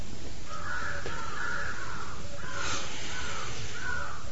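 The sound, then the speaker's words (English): A crow caws repeatedly, about five harsh calls in a loose rhythm, over a steady low rumble of outdoor background noise with no one speaking. “If you notice in the very early morning or in the evening, just at the twilight, the birds are all making so much noise.”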